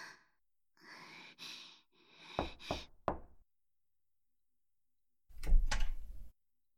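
knocking on a door

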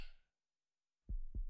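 heartbeat thumping

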